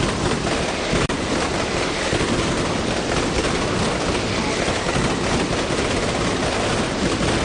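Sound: mascletà firecracker barrage explosions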